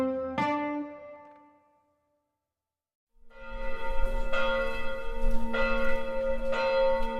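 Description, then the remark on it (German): A single deep bell strike rings out and fades into silence, then a full peal of the large bells of Wrocław Cathedral starts up, overlapping strokes clanging continuously with rich, sustained tones. “Die Glocken des Doms von Wroclaw.”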